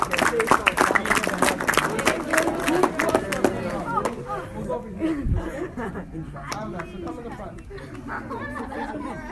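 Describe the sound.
An audience bursts into a round of applause, with dense, crisp clapping for a few seconds that then tapers off into a murmur of crowd chatter and voices.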